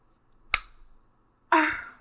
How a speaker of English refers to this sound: I'm sorry. I wasn't trying to smart off. You don't have to slap me.